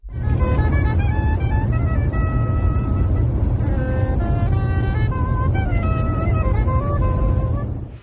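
A saxophone plays a slow, flowing melody of sustained notes over a steady, loud low drone of airplane cabin noise that runs throughout.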